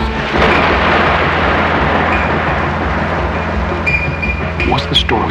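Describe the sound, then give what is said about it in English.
A loud, rolling rumble of storm thunder that roars steadily for several seconds, heavy in deep low tones, with a few faint higher chirps near the end. “Did you ever watch the coming storm, the fog that creeps in over the land, and swirling birds that cross the sky?”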